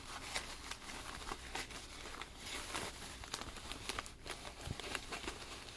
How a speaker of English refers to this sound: Don't you make a mess with all that tissue paper.